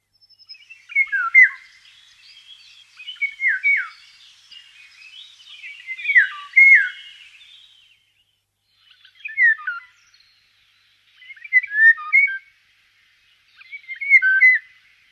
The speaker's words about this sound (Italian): Questo è il canto territoriale del rigogolo, uccello tipicamente pacato.